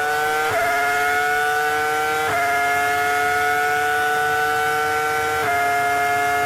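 car

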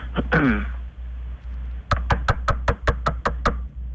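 knocking on a door

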